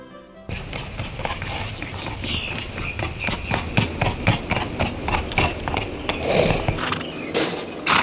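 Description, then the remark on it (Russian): Horse hooves clip-clop in a steady, even rhythm, a long run of sharp clopping steps over a continuous low background rumble, with no voices. “я лошадей выпряг.”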